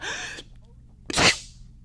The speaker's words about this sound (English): Only Grandma sneezed.